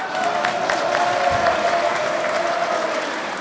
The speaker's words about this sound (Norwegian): I denne episoden så skal vi prate om det viktigste som har skjedd den siste uka, og det jo da gjenåpningen av Norge. Og da slenger vi en applaus der.